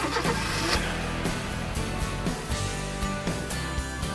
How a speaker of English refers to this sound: They find Andy's car. There is Andy's car.